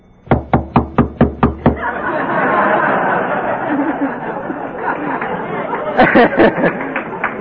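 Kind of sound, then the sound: impact, knocking on a door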